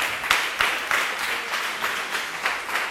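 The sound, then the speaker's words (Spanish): An audience at a worship service claps their hands loudly to praise God in a steady, rhythmic beat, sharp repeated strikes about every third of a second over a dense wash of scattered clapping, with no voices. “Dele palmas, hermano, a Dios, hermano. Dele palmas, désela fuerte.”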